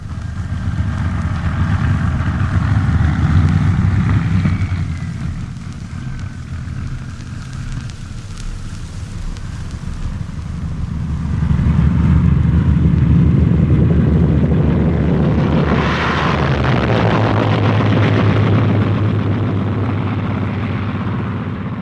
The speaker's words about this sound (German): Irgendwann dann hört man sie, die Flugzeugverbände, die über die Köpfe hinwegflogen und die nicht zu zählen waren. Das waren Bomber der Alliierten, hunderte Maschinen, auf dem Weg in das Herz des Deutschen Reichs, über Waldeck hinweg